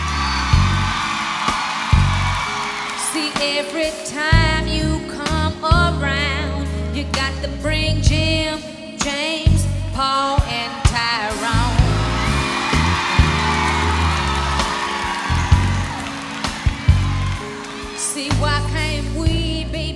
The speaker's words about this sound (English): And all the women in the audience are screaming the entire time. Like, they're so delighted and they relate to this song so thoroughly, so immediately.